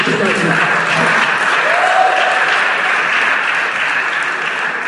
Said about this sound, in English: So a major round of applause to everybody who braved the snowy weather.